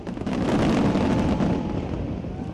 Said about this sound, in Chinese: 香港在国庆当日亦都有烟花汇演。